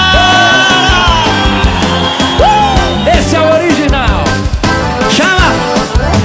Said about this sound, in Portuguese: Cadê o gritão da galera?